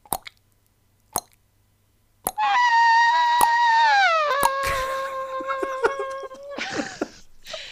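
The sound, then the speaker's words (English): Voices imitate rain and racing cars: scattered sharp mouth plops mimic raindrops while a loud, sustained, buzzing engine wail slowly drops in pitch, then ends with a short rising whine. “You do the rain. Okay. I'll do some cars going trip.”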